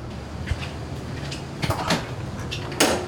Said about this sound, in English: So those are the condensing fans going. So we shoot for 38 degrees. It's basically a big walk-in refrigerator